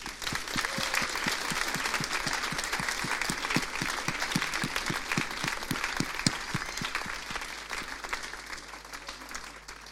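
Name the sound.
loud audience applause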